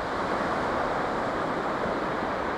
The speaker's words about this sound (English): And listen, above the crashing waves,